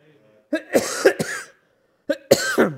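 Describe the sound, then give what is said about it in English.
A person coughs: a harsh run of three or four quick coughs, a brief pause, then another short burst of two or three more, loud and raspy with no talking. “I do have cough drops this morning.”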